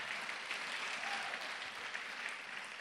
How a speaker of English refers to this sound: Can you clap for yourself? Clap for yourself.